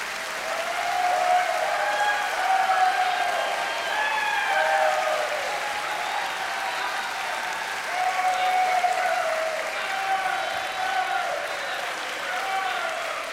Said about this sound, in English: And before we go any further, first of all, I need a round of applause to settle my nerves here, because I'm very, very nervous out in front of you.